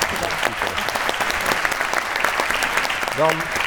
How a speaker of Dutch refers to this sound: Dank voor jullie bijdrage, daar mag best een applaus voor komen.